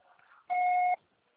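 A single steady electronic beep from a voicemail recording, about half a second long, pure and mid-pitched with a faint harmonic, sounding alone after a brief murmur of low noise.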